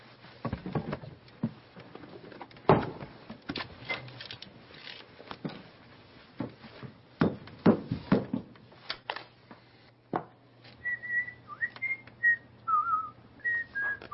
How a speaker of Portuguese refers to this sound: Por favor, sem assoviar.